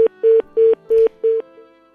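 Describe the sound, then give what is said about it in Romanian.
Phone line tones: five short, identical beeps repeat in a quick, even rhythm, loud, with no voices over them, like a busy signal from a caller failing to get through to a live call-in line. “Probabil că cineva încearcă, dar nu reușește să intre direct cu noi.”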